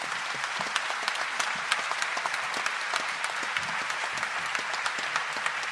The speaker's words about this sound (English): Again, I'm going to cut the applause short.